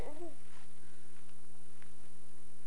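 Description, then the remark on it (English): A single short, faint cat meow right at the start, followed by quiet room noise with a steady low electrical hum and no talking. “Do you love your kitty?”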